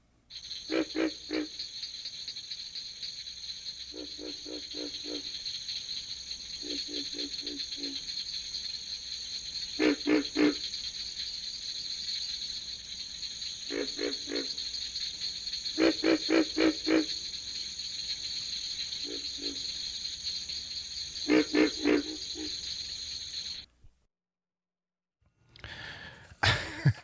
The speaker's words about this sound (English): We have a CD, for some reason, we have a CD of sounds of North American frogs. It's just one after another. Tree frog voices are very different in quality from those of the pig frog, Rana Grillo, which has internal vocal sacs.